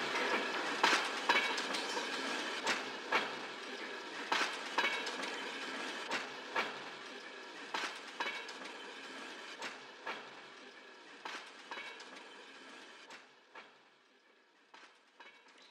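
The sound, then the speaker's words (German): A train rolls steadily along the tracks at a railway station, wheels clattering in a regular rhythm of sharp clicks over a broad rumbling hiss that gradually fades as it moves away. No one speaks. “Bleib im Bahnhofsbereich, hier auf den Gleisen.”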